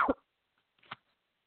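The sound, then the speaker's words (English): Two short, harsh coughs from one person, spaced under a second apart, the first sharper and louder, the second a bit softer, with silence around them; the person is coughing on instruction during a prayer. “Take a deep breath and cough those, cough, take a big, just start coughing.”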